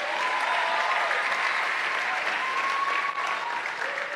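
A crowd applauds steadily, a dense wash of many hands clapping at an even loudness throughout, with a faint murmur of voices underneath.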